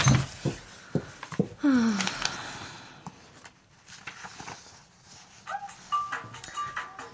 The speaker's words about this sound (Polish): Nieznośny sygnał. Gdzież jest ten jej telefon?